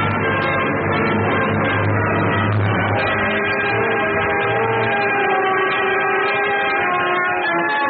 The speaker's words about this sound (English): I remembered the prison siren at the State Farm.